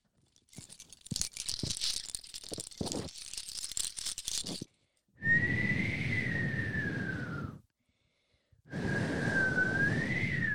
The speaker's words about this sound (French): Il y a beaucoup de vent, mais peut-être que le vent pourrait nous guider.